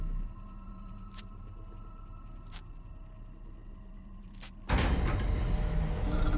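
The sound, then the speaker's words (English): A heavy door opens with a sudden loud rushing whoosh that keeps roaring, after a steady low mechanical hum broken by three sharp, separate clicks. No one speaks. “A door opens to a predator.”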